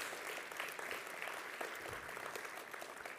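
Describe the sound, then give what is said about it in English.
A crowd claps steadily, dense and continuous applause filling the space at a moderate level, with no single voice standing out; a morning church audience applauding the kids and everyone who helped put their presentation together. “What an amazing, let's just give another round of applause to the kids and everyone who helped put that together.”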